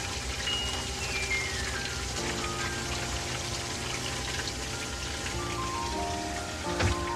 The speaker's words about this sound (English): And you reach up here to flush it. See this? Press that. And that flushes it.